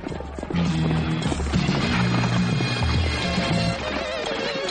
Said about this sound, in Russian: Дьявол, эта лошадь взбесилась.